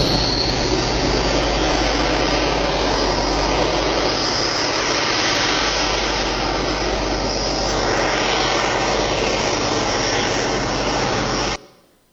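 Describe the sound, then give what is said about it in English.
A tractor-pull engine roars at full throttle, loud, in a dense, unbroken drone for about eleven seconds before cutting off abruptly. No one speaks. “When I was searching for clips on tractor pulls and truck pulls for blown engines, I wondered why did they have little cages over the tractors where the driver sat, and now we know from those clips they can blow the engine right out of the whole”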